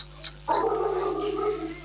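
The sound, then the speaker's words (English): After a brief near-silent pause, the neighbour's dog lets out a loud, drawn-out bark that stretches into a wavering howl lasting over a second, with no one talking. “What dog's barking there, sister?”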